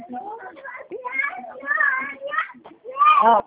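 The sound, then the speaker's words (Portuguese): A young child, a twin great-grandson, shouts and yells in loud, high-pitched bursts, several strained cries rising and falling over a few seconds, with the loudest, most piercing yell at the end. “É porque o gêmeo está aqui gritando a beça, meu bisneto.”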